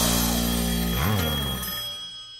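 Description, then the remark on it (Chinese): A telephone rings with a bright, sustained tone that bends briefly in pitch partway through, then fades away, announcing a call-in hotline that is open and waiting for calls. There are no voices, only the ring, which is fairly loud. “打电话给我，打电话给我。 无线飞行号，热线准时开通，等你来电。”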